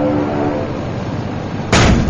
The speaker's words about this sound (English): that was ice coming off the props. Ice is forming on the propellers and chunks are flying off.